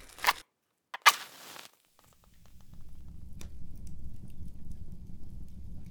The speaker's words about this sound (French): Vous connaissez ce son-là? Le feu. Écoutez comme le feu crépite. Ah, il fait chaud là.